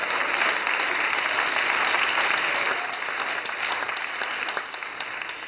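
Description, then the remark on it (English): A church audience claps their hands unto the Lord in a dense, steady burst of applause, loud and sustained before thinning slightly toward the end, with no voices standing out. “Come on, let's clap our hands unto the Lord today.”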